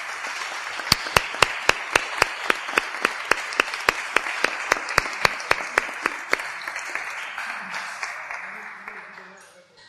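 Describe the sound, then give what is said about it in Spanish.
An audience applauds for a sports club, its sporting director and coach, with one sharp, steady clap ringing out above a wash of crowd clapping. The steady clap stops after about six seconds, and the applause fades away toward the end. “Un aplauso para ellos.”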